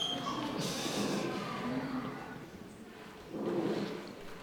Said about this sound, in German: Der andere Jünger öffnet die Tür zur Wohnung. Die knarrt und quietscht mal wieder.